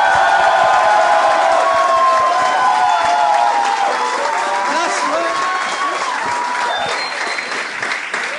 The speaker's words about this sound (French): J'aimerais qu'on donne bonne main d'applaudissement au premier invité de ce soir, le seul, l'unique, monsieur François Bellefeuille.